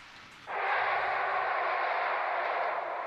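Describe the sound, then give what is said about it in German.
A loud, steady rushing roar of a train passing through a train station cuts in abruptly after a brief quiet moment and holds constant, with no voices. “Klingt nach Bahnhof.”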